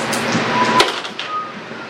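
Percentile dice clatter and tumble across a hard surface in a quick rattling burst, with a sharper knock partway through before the rolling settles into a softer, fading rattle.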